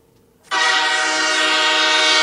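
A loud train horn blasts abruptly after a brief quiet moment and holds steady as one sustained, harmonically rich tone until the end, dominant with no voices.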